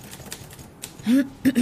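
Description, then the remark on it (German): A few sparse, fairly faint typewriter key strikes clack at uneven intervals as a typist takes dictation for a book, then the typing stops and a brief voice-like sound follows. “Warum hören Sie auf zu tippen?”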